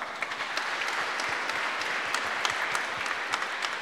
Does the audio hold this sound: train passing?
no